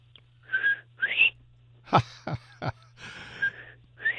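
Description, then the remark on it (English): A person whistles an imitation of a bobwhite quail's call: several short, breathy whistles, some sliding upward in pitch, with a few sharp clicks between them and no talking. “Okay, well, that's a very good but somewhat weak imitation of the Bob White call.”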